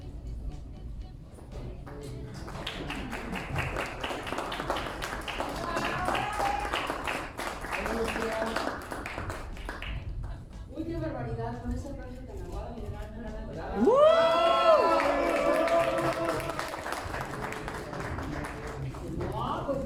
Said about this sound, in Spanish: Que recibamos con un fuerte aplauso a Lucía Méndez, por favor, que nos acompañe.